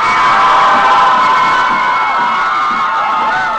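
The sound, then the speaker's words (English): Hobby Lobby supporters cheer loudly and continuously outside the Supreme Court, a dense wash of shouting and high whoops holding steady throughout with no distinct individual voice standing out. “Here outside the Supreme Court yesterday, Hobby Lobby supporters cheer.”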